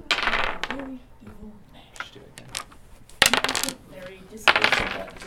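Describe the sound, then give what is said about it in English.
Several bursts of dice clattering and rattling across a hard tabletop, with sharp clicks scattered irregularly, and faint background voices murmuring underneath, as six young teens sit around a table rolling dice and flipping through game manuals at an after-school program in Oakland. “He and five other young teens sit around a table, each rolling dice and flipping through game manuals, peering over thick binders, each with hundreds of pages of information.”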